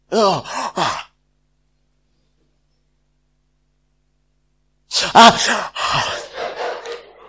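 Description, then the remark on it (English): A short, breathy yawn, then several seconds of silence, then a longer, louder yawn that trails off into a sighing exhale. “You yawn, then another person yawns.”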